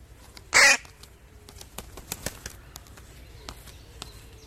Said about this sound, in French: Essayez maintenant d'écouter les trois en même temps, le croassement du corbeau, le bruissement des ailes et le pépiment des oiseaux.